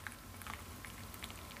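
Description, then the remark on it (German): Tea pours steadily through a pour-in tea filter, a continuous trickle with small pattering drips and ticks over a low background rumble, no voices. “Der sogenannte Einschenkfilter.”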